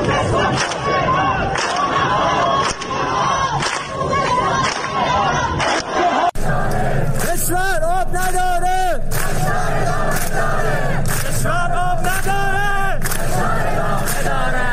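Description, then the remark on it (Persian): A large protest crowd chants slogans loudly in unison, including "From Khuzestan to Tehran, unity, unity" and "The country has no water, the pressure continues", voices rising and falling in repeated rhythmic phrases, with shouting and a dense roar of many people, growing more intense partway through. “شعارها هم چیزی نبود جز از خوزستان تا تهران اتحاد اتحاد و کشور آب ندارد فشار ادامه دارد.”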